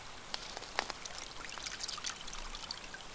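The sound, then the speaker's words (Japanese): Water from a river runs and splashes steadily nearby, with brief brighter splashes and droplets breaking through the continuous, fairly quiet flow. “ちなみにこの川の水、なんと飲めるらしいよ。”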